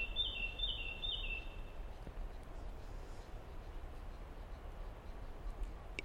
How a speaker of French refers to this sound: Et voici les premières cigales.